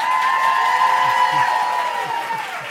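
An audience applauds and cheers, a steady wash of clapping with sustained whoops or whistles riding over it, loud throughout and easing slightly toward the end, giving a round of applause for a host on stage at a live Q&A event.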